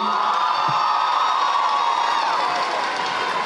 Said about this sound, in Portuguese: E pedir uma forte salva de palmas a todos os alunos do pé de meia,